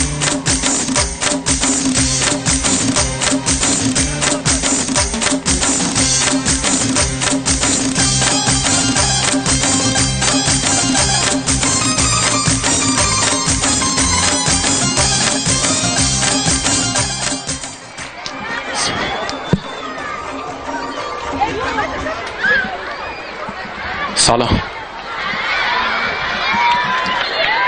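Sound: audience applause and cheering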